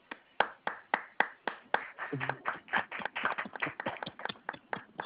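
Applause from a small group: a few distinct, evenly spaced claps at first, quickly thickening into denser overlapping clapping that continues steadily, fairly close and moderately loud.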